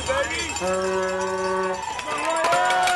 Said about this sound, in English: This was at last year's Louisville Derby City Cup. Hundreds of people, some in costumes, packed onto the course to cheer the riders on.